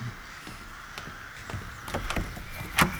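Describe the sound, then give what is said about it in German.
Footsteps of someone coming down stairs inside a house: a steady series of thudding, creaky steps about half a second apart, growing louder toward the end, with no voices. “Ich höre Schritte. Da drin kommt jemand die Treppe runter.”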